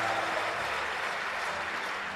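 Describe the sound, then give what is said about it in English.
A crowd claps wildly, a dense, steady wash of applause that holds at an even, fairly loud level for about two seconds with no voices over it. “Wild applause.”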